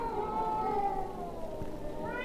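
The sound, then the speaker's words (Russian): Cats yowl and caterwaul in a long, drawn-out wail with wavering pitch, sustained, rising into a sharper cry near the end; a cats' concert in a city in spring. “Звучит знаменитый кошачий концерт.”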